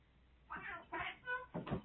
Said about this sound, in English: Sorry, my cats are fighting in the background.